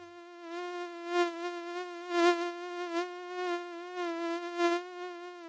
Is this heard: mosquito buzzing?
yes